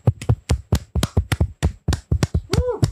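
A short burst of applause: about a dozen sharp, steady hand claps in quick succession, with a brief voiced whoop rising near the end.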